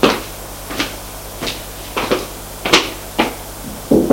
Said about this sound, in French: Le policier va frapper à la porte.